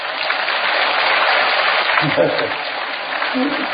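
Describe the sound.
A crowd of disciples and fellow Buddhists at a Buddhist teaching gathering claps steadily, a dense, continuous wash of applause lasting several seconds, with a few faint voices mixed in beneath it.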